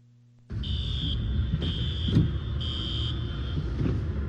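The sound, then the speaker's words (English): A car alarm, triggered by an intense storm as a rare tornado touched down in a suburb of Los Angeles, California, blares in regular on-off bursts of a high, piercing tone over a loud, continuous roar of wind and storm rumble, with occasional sharp knocks. “The sound of car alarms triggered by the intense storm was captured by a weather tracker identified as IDK.Leroy.”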